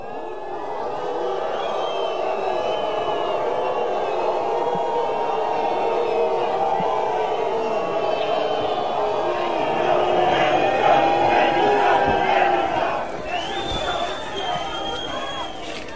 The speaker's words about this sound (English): That's quite the reaction, and it went on a bit longer. That's not just one or two people booing him. That's a whole crowd there in Nice booing their Prime Minister when he comes to have a minute's silence for those victims.